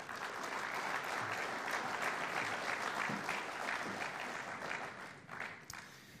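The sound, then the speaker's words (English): A church audience applauds a man invited up front to tell his story, steadily for about six seconds, a dense wash of many hands clapping at even loudness, tapering slightly near the end. “I wonder if you can join us up here to give him a round of applause.”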